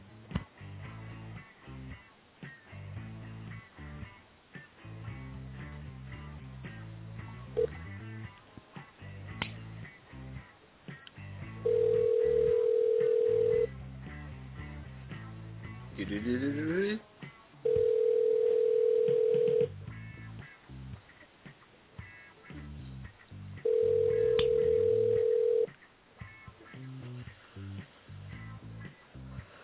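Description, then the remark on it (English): Quick electronic dialing beeps as someone calls a person back, then a phone ringback tone sounding three times in steady two-second pulses with pauses between, clear over a busy, low background. “I'll call your ass back. Hold on.”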